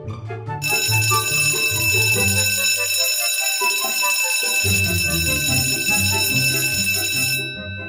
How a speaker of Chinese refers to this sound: 下课铃声响起了